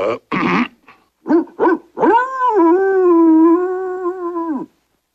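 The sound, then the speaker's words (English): Puppies give a quick run of sharp yips and barks, then break into one long, wavering, high-pitched howl that holds for a couple of seconds before cutting off. “It sounds like puppies, sir.”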